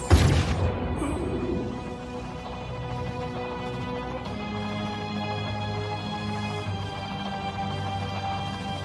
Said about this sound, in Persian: از چیزی نترس، صدای شلیک رو شنیدی؟ اینجا امن نیست